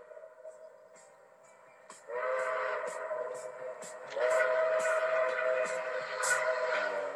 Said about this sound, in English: Sorry, it starts with a train whistle? Is that what I'm hearing? Yes.